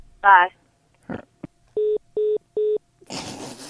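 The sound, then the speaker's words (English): A brief voice and a couple of clicks as a phone call is hung up, then three evenly spaced electronic disconnect beeps of the same pitch, followed by a burst of noisy talk or static. “All right, so I'm going to hang up the phone.”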